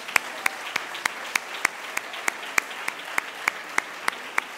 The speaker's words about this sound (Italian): Eccoli, bravissimi. Applauso.